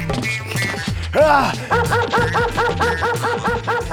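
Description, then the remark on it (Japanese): A dog that has just run up and bitten a person gives one drawn-out yelp, then breaks into a fast, steady run of sharp barks, fairly loud, with no talking over it. “こら犬、 犬が 話すっす。 犬が 人を噛んではダメっすよ。”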